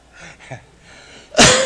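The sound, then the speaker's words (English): A single loud, harsh cough bursts out near the end, following a few soft, breathy throat sounds. “I coughed it into existence, I guess.”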